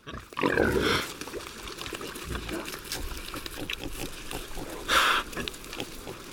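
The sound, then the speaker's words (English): Iberian pigs roaming loose among oaks in the pasture of Cabañeros Park grunt and snuffle, with a loud low grunt near the start and a sharper squealing snort about five seconds in, over a steady rustling background. “The Iberian pig is the domestic animal that best represents the pasture's landscape in Cabañeros Park.”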